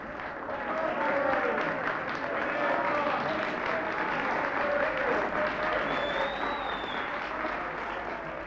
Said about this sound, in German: Die Akteure beklatschen das Publikum.